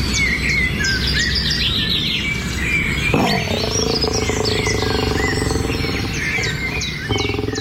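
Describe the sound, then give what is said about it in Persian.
Birds in Afghanistan sing and chirp continuously, with bright high whistles and trills layered over a steady low rumble; a deeper tonal drone joins partway through. No one speaks. “افغانستان زیستگاه ایوانات و پرندگان نادری است که در هیچ منطقه جهان نمیتوان آن را سراغ کرد، اما در برخی موارد یا از بین رفته و یا با خطر جدی انقراض مواجه است.”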